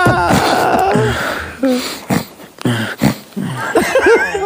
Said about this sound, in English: Also, that breathing pattern, if you actually are sleeping, is quite alarming. Yeah. People shouldn't breathe like that while they're sleeping. Yeah. It's like you're sleep stuttering.